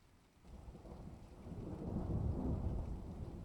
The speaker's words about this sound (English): Babe, it's raining outside. Rainy Sunday mornings are for staying in bed with me, not for going to the grocery store or whatever you're planning to do.